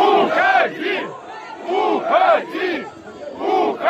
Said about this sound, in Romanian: În timp ce Lukashenko a încercat să răspundă întrebărilor, muncitorii i-au strigat: pleacă!